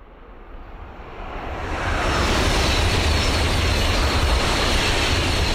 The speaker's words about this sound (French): Donc c'était trois sons d'atmosphère de train, donc des trains qui passent, qui se croisent. Et puis là, on entend d'un seul coup un klaxon, je crois que c'est le train à vapeur.